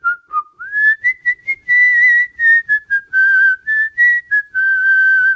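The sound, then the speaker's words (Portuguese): A bright, cheerful melody whistled by a single person at night, with a steady, wavering tone that rises and dips through short phrases and a few quick staccato notes, clear. “O assobiador tem a mesma melodia todas as noites. E é alegre.”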